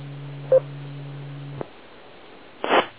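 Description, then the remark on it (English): A male cat pestering to be fed gives a short, insistent meow, then a louder, longer one a couple of seconds later, with a steady electrical hum in the background at first. “I gotta go feed the cat. He's pestering me.”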